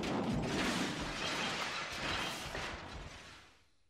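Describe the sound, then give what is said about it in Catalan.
A loud crash of a van smashing through a glass shop window, a dense burst of shattering and rumbling debris that rolls on for a few seconds before fading out. “A més, hi ha un vidre i potser el trenquem.”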